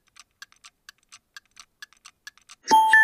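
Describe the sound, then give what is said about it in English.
A grandfather clock ticks steadily, about a dozen crisp, even ticks, then a loud, ringing chime strikes and sustains to the end. No voices are present. “The Martians find a grandfather clock and think it might be an Earthling.”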